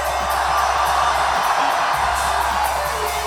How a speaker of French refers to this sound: Est-ce que vous êtes chaud? Moi j'aimerais vous sentir un petit peu plus motivé là. J'aimerais vous entendre crier Paris.